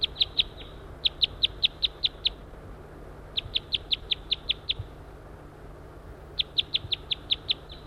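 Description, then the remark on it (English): A male bird, whose mate has been captured, circles and calls loudly in rapid bursts of sharp, high-pitched repeated notes, each series of eight or so clipped chirps separated by short pauses, over a steady low hum. “Circling that male who's hanging around, still calling loud.”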